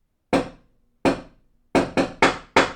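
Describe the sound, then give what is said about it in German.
Knocking on the door of a house in a deliberate pattern, like an agreed knock signal: two slow, spaced knocks followed by four quicker raps, each sharp and hollow with a brief ring, with no voices. “Also wenn man dieses Haus betreten möchte, wenn man anklopfen möchte, wird man im Regelfall intuitiv erkennen, wozu diese Technologie dient.”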